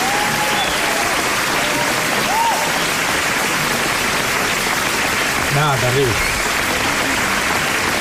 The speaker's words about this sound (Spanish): le van a poner unos aplausos, seguramente, porque esta gente es así, le pone aplausos.